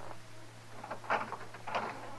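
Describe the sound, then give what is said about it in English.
A door is opened by Matt for Kitty, who is carrying groceries, with two brief, muffled clunks of the latch and hinge about half a second apart over a low steady hum. No one speaks. “Open the door.”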